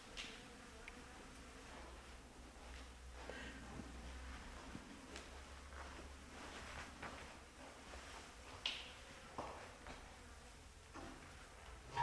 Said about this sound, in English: Bees, yeah, very active. It's so warm.